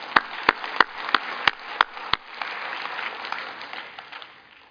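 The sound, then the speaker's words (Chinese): A crowd claps for themselves in unison for about seven sharp, evenly spaced beats, then the clapping breaks into a loose, continuous patter of applause that slowly fades out. No one speaks. “好吧，给自己拍手一下，好不好？”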